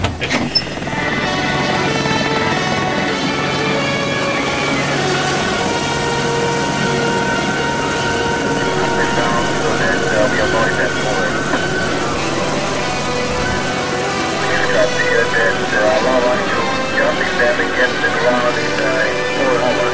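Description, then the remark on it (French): A steady, loud helicopter drone fills the whole stretch, a continuous mechanical roar with rhythmic blade chop that holds constant from start to finish. “L'hélicoptère. J'entends l'hélicoptère.”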